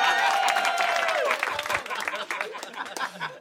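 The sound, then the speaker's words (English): A crowd bursts into steady applause, dense clapping filling the whole stretch, with a high whoop of cheering riding over it at the start before the clapping thins slightly. “Give it up for my mom.”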